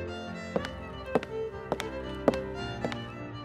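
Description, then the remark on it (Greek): Footsteps of someone coming into a cellar sound as sharp, hollow taps, arriving in loose pairs at an unhurried pace, about eight steps over a soft, sustained musical drone. “Ξαφνικά ακούστηκαν βήματα.”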